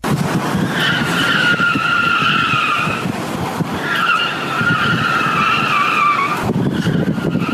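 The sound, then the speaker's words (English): The badly worn tires of Ray's car screech loudly as it turns, in two long, high-pitched squeals, each lasting about two to three seconds, over a steady engine roar with no talking. “Here's Ray's tire screeching.”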